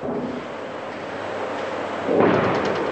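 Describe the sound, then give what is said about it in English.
A mortar shell explosion in Baghdad, Iraq, on a cold, bright mid-morning, one of half a dozen mortars fired by insurgents: a single deep, rolling boom rising out of a steady low rumble of city noise near the end, with no talking. “Insurgents fired half a dozen mortars, apparently aiming for the fortress enclave where US officials and others have their headquarters.”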